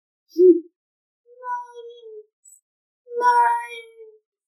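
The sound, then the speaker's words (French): A small lost kitten, Patapon, cries out at nightfall in a few plaintive, wavering meows: a brief squeak, then a drawn-out mew, then a louder, longer wail, with no other sounds around. “Patapon s'aperçoit qu'il est perdu. Il se met à pleurer.”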